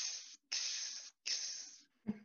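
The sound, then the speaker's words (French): A person makes three drawn-out, breathy hissing sounds in quick succession to call a cat, fairly loud, ending with a short voiced sound. “la personne russe lui disait, tu sais, vous, je vous trouve bizarre, quand vous voulez appeler un chat, vous faites”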